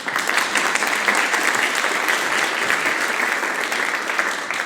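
A large audience claps steadily, a dense, sustained wash of applause that stays loud and even for several seconds, with no voices rising above it.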